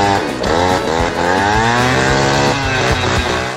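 A jet ski engine runs loudly and steadily as someone rides it, its buzzing whine rising and falling as the throttle revs up and eases off, with no voices.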